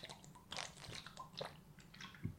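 human body sound, gulp

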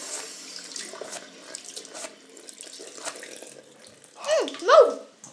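household object, water running

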